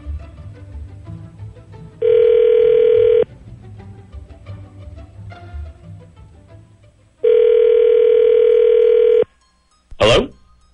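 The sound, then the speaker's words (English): An outgoing phone call, dialed at random, rings twice, each ring a steady, buzzy mid-pitched tone lasting a second or two, over a low rumbling background, ending with a sharp click as the line picks up. “Calling at random. Beep.”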